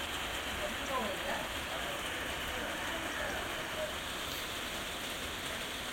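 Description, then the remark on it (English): Heavy rain pounds a conservatory roof in Gravesend in a dense, unbroken hiss and patter, steady throughout with no pauses or letup. “Can you guys believe how insane the rain is?”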